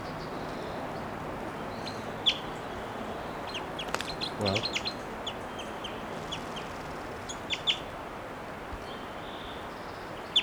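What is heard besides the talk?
wild bird calling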